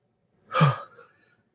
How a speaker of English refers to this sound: Just a second, there's nothing wrong. I'm just trying to fight a sneeze here, or even let it happen. There, good.